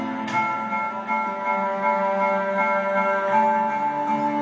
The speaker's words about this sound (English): And the migration level is going up as you can hear the bell sounds going higher and higher.